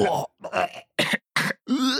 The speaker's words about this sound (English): So I grabbed a bunch of people around the office, and we recorded ourselves gagging in lots of different ways.